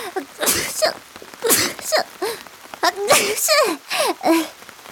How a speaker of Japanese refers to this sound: くしゃみ止まんなくなっちゃった。